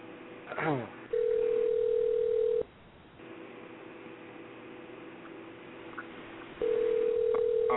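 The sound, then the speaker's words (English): A telephone dial tone after a dropped call: a loud, steady mid-pitched electronic hum that sounds for about a second and a half, cuts to faint line hiss, then returns. “Her phone just dropped.”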